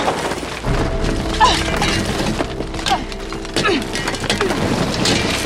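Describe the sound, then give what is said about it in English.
A driver who has pulled over in a Camaro on a dirt road at night smashes the windows of a vehicle, with several hard blows and a continuous crunch of breaking, splintering glass. The noise is loud throughout, with sharper impacts standing out now and then. “Steph pulls over in the Camaro and smashes the windows of the vehicle”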